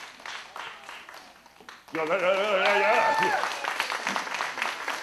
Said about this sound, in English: All right, so I'm going to step aside while we have a big round of applause for our new circus performer.